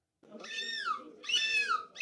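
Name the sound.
human imitating seagull screech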